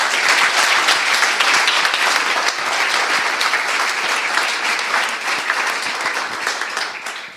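Sustained audience applause from a sizable crowd welcoming two guests at the start of an evening talk event: dense steady clapping at a loud, even level that tapers only slightly toward the end, with no voices standing out.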